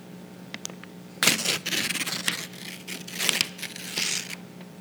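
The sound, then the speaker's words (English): A sheet of paper is torn in a series of rough, crackling rips, starting after a brief quiet moment and continuing in uneven bursts, with no voices and a low steady hum beneath. “And as I looked into this word and studied this word, the image that came to my mind of what was happening amongst the church was of this brilliant piece of paper.”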